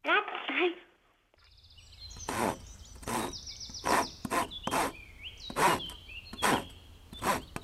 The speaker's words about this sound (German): Aber wie, also, das Sägen, wie war jetzt das? Ritsch. Ja, genau. Ritsch. Ritsch.